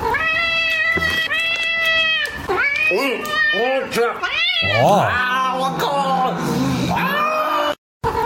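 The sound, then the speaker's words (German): A cat meows repeatedly and insistently, with long, wavering yowls that rise and fall, loud, continuing for several seconds before cutting off abruptly. “Ja, also die Katze hat Bock auf frisches Fleisch, auf wunderschönes Fleisch.”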